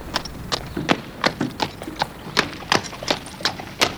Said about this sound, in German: Pferdehufe. Ja. Droschken. Pferdebahnen, 1873. Vor 150 Jahren haben die Verkehrsmittel anders geklungen.